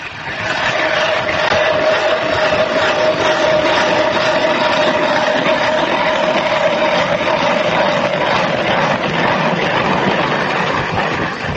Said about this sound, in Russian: Сейчас они начинают бурить лунку.